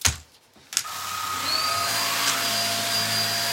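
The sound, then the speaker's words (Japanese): A click, then a cordless vacuum cleaner whirs to life to suck up scattered hair, its motor winding up to a steady, loud whine with a constant rushing airflow. No one speaks. “このコードレスタイプの掃除機がめちゃくちゃ便利で、やっぱ紐で引っ張ってくるとさ大変だったりするからさ、ほんと楽だなって思う。”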